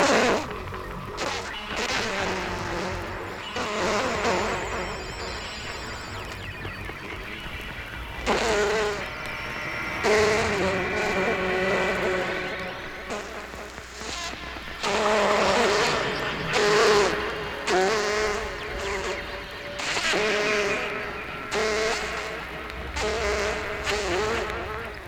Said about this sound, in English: The drone of the germ-laden housefly is a common sound of the warmer months.